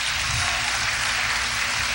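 Steady applause from a crowd in a church, a dense continuous patter of many hands clapping with a faint low hum underneath, no voices.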